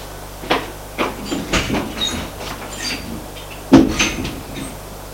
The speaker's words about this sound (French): On frappe à la porte.